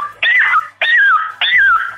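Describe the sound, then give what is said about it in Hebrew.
A person from Beit Shemesh imitates a rooster crowing three times in quick succession, each call loud and unusually high-pitched, rising sharply and then sliding down in a squeaky, whistle-like cry. “רוצים חיקוי של תרנגול אולי?”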